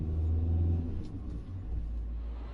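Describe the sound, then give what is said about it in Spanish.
A car engine rumbles steadily while driving, a deep low drone with a slight dip in the middle before settling back. Continuous, with no voices. “Subiste a tu auto con la esperanza de que este evento fuera diferente.”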